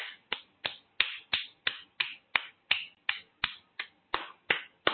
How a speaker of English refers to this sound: I want all of us to just shake off something from our hands. So we're clapping, but that shaking off clap, you know, like when we say good riddance to something like that. So let's just do that for a minute.